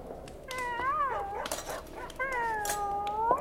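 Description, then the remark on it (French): The dog Miro, returning with the baron de Sigognac in the Landes at sunset, howls in two long, wavering, drawn-out cries separated by a brief pause, moderately loud, with no talking. “Oui, oui, Belzébuth, c'est notre maître, le baron de Sigognac, qui nous revient avec le chien Miro.”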